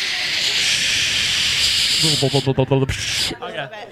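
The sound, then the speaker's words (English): A person imitates shower spray with a steady, breathy hiss held for a couple of seconds, then shifts into short voiced, hummed vocal sounds with a few choppy breaths. “Do you want us to make shower noises for you?”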